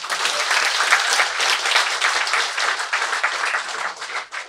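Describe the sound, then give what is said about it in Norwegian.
A live audience at a post office breaks into sustained applause for themselves, dense clapping from many hands continuing steadily for several seconds before starting to thin near the end. “Applaus för er själv.”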